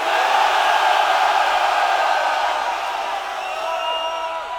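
A large concert audience screams and cheers loudly and continuously to vote for one of two title tracks the band offers to play, a dense wall of voices that holds steady for several seconds before easing slightly toward the end.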